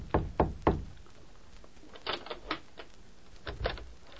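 Three quick knocks on a wooden door, followed by a few softer raps and a later pair of knocks, all fairly close and quiet with no voices.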